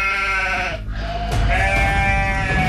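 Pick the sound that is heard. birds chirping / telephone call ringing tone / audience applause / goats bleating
goats bleating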